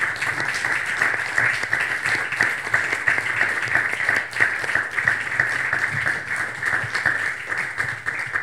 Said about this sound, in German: Vielen herzlichen Dank. Dann bedanke ich mich mit einem großen Applaus bei den drei Herren am Podium.